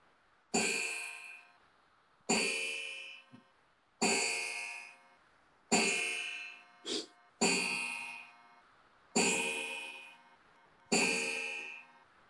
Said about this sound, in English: An antique clock, so I can't shut it off.